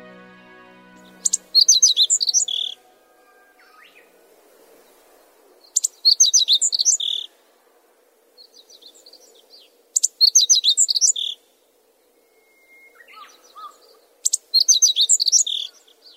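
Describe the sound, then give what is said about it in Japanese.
A meadow bunting, a sparrow-sized bird about 17 cm long, sings in a field near the Keta River in Haruno: four bright, rapid phrases of high chirping notes, each about a second long and spaced several seconds apart, with quieter softer calls in the gaps and a faint low background hum. “川からほど近い畑で、こんなさえずりに出会いました。”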